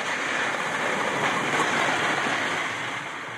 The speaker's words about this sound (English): You know, but when the ice is moving and it's a windy day, it's, you know, there's a background din of crunching going on. This is actually what it can sound like.